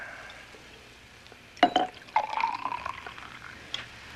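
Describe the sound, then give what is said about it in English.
Wine pours into a glass in a short gurgling stream with a splashy start and fizzy bubbling, ending with a light clink; no one speaks. “It's the bubbles.”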